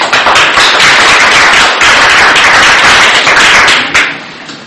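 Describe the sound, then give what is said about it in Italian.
An audience clapping steadily to welcome a speaker at a talk, a dense, loud patter of many hands that holds for several seconds before thinning out and fading at the end. “che invito a introdurre con un applauso.”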